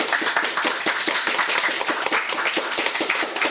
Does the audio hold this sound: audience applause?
yes